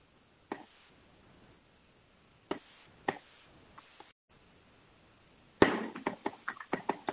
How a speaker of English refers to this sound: Someone is typing.